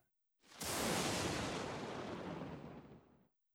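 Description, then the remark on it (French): A single loud thunderclap in the evening bursts in sharply, then rolls on as a broad, steady rumble for about two and a half seconds before cutting off. No voices are heard. “Il tonne. Oui, ce soir, on entend le tonnerre.”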